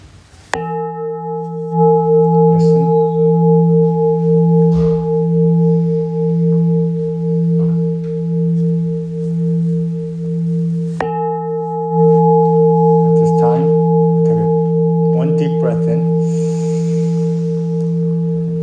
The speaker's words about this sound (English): So we're going to start with three bells and end with three bells.